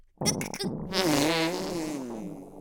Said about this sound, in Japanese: お前はただ私のおならを堪能してチンポを追っ立てていればいいんだ。